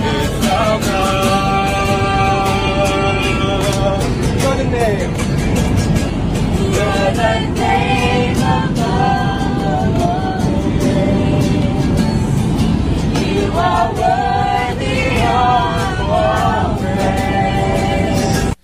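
A group of passengers on a plane at 30,000 feet sings Christian hymns together while a man plays a guitar, all over a steady, loud low roar of engine noise.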